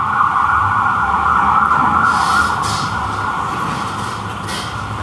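A loud emergency siren wails steadily over rumbling traffic noise, holding a sustained high tone throughout before easing slightly as it moves past; no one speaks.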